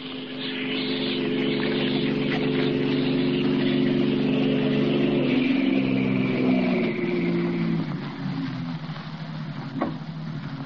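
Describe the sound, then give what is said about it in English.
A car engine hums steadily with low droning harmonics as a car comes up the street, growing louder as it draws near, then the pitch drops and the sound eases off as it passes by. “a car coming up the street.”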